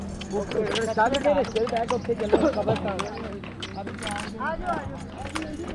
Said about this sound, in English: A horse-drawn cart nearly collapses under the weight of a dozen people as it ferries Shazia's family to the cemetery